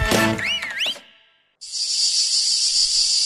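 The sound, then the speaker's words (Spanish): A few quick bird-like warbling chirps, a brief silence, then a cicada's loud, steady, high-pitched buzzing drone starts abruptly and holds evenly to the end, unbroken, as the jingle of the UPV Radio program El cant de la Chicharra. “La Chicharra canta cada divendres en UPV Radio a les 4:30 de la vesprada.”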